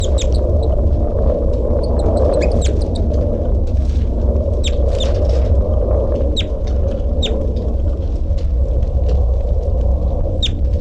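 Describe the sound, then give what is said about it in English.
A caged bird, bird 3-3, calls in a cell, giving a steady series of short, high chirps spaced every second or so over a constant low rumble. No one speaks. “3-3 is calling.”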